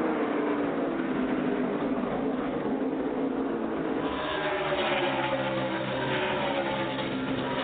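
Race car engines roar continuously as the cars, with Martin Truex Jr. right on Denny Hamlin's back bumper, speed down the backstraight at 180 miles an hour before braking to 90; a dense, loud drone whose whining tones rise and shift partway through. No one speaks.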